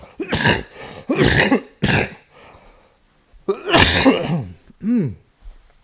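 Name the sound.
coughing fit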